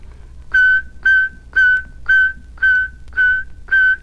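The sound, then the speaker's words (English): A person whistles the letter K exactly as it is pronounced, seven short, identical notes in a steady, evenly spaced rhythm. The whistle is clear and fairly loud, with no talking. “And now then, we have K. Whistle exactly as it's pronounced.”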